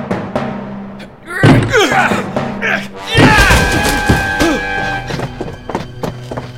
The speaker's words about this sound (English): Utterson and the servants broke down the door.